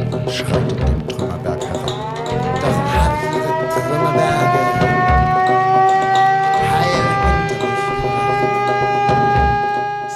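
A loud civil defense siren wails steadily, its tone slowly rising and falling, with dull rhythmic thumps pulsing underneath; no voices.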